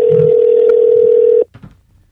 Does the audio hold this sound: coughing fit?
no